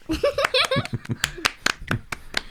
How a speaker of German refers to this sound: Super. Ich danke euch. Das war ein sehr schöner Applaus.